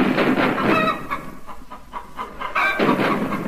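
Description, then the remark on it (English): Chickens cluck and squawk in quick, repeated bursts, fairly loud, under British artillery shelling, over a steady low rumbling background with no voices. “Hear that thrilling sound. British artillery shelling German chickens.”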